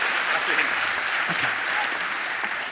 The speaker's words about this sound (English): One special mention for the Russian and Polish teams, that was their first time this year. So one big round of applause for them, please.